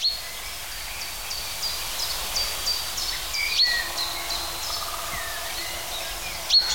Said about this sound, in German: Und das ist jetzt sein Kontaktruf. Eindeutig keine Kohlmeise. Pink. Pink, pink.